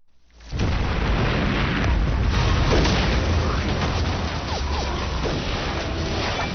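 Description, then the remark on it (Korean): A dense, sustained roar of explosions and gunfire begins abruptly after a half-second of quiet and continues loudly throughout, with booming low rumble, crackling bursts and faint voices mixed in, from a battle scene of the Chinese TV drama series 38th Parallel (38선) about the Korean War. “귀를 울리는 폭음과 총성이 연이어 들립니다.”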